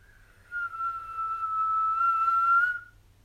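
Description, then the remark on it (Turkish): A single sustained whistle holds one steady, clear tone for about two seconds, fairly loud, with a faint low hum underneath and no voices. “Yeni ayın doğduğu bu gecede önce bir ıslık sesi duyulmuş.”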